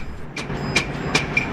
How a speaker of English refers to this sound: The taxi speeds through the late evening traffic.